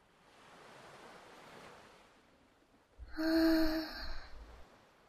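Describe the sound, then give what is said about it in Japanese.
Ocean waves wash softly onto the shore of a beach at night, a gentle hiss of surf that swells, fades, then returns as a louder rush before settling again. No one speaks. “波の音を聞いてるとなんか落ち着くよな。”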